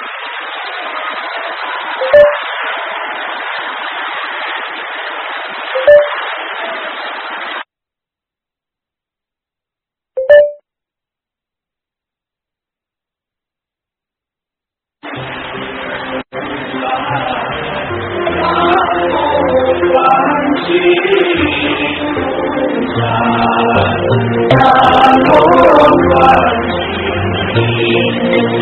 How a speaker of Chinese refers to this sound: 让我们再一次用热烈的掌声感恩南无大慈大悲观世音菩萨，感恩大慈大悲的卢俊宏台长。